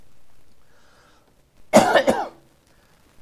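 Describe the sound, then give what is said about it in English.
A loud burst of coughing and harsh throat clearing, two quick rough hacks in succession, with quiet room tone before and after. “Can you get me one of those cough drops? As I'm talking, I always get into this.”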